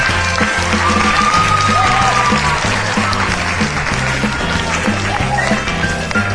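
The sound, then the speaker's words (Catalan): An audience applauds steadily for several seconds on the radio spelling contest Picalletres, for the team from the Institut de Palamós: a dense, loud wash of clapping that barely lets up, with a rhythmic musical beat thumping underneath. “Un aplaudiment per tots ells.”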